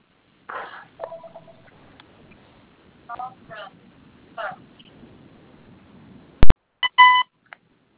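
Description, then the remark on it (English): An electronic telephone rings in short tonal bursts spaced irregularly, with a sharp click and a final louder trill of beeps near the end; faint background murmur underneath. “Hey guys, can you pick up the phone?”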